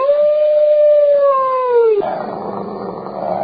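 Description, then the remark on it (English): A single drawn-out dog howl sound effect, loud, holding a steady tone for about two seconds before sliding downward, then giving way to a rough, noisy wash of sound. “For that, you're the Morning Sedition Dog of the Week.”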